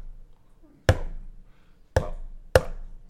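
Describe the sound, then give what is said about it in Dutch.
Four sharp percussive strikes, irregularly spaced, each a hard woody knock with a quick decay, imitating hammer blows on wood in part 5, 'Hout en spijkers', of a piece with a soprano part, over a faint low background. “Nou, dames en heren, zoals al gezegd in de inleiding, krijgen we daar die percussie die hamerslagen een soort nadoet.”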